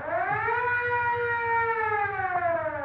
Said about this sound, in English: Gee, that police siren gives me the creeps.